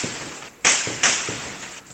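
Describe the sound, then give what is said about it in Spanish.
Several sharp, loud gunshot cracks from bursts of gunfire in clashes between security forces and criminal gangs in western Caracas, Venezuela, ring out at irregular intervals, each with a short trailing echo, and fainter pops sit between them. No one speaks. “Así suenan parte de las ráfagas de balas producto de los enfrentamientos entre fuerzas de seguridad y bandas criminales que desde hace meses generan incertidumbre en varias comunidades del oeste de la capital venezolana.”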